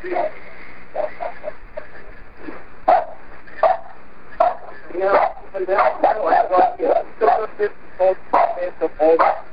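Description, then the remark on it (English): A dog, CJ, barks repeatedly over a muffled, telephone-quality 911 call recording, short sharp yelps cutting through the agitated voices of people talking on the call. “Yeah, I mean, this was really a problem because CJ was barking over everything.”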